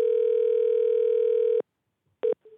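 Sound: telephone ringing tone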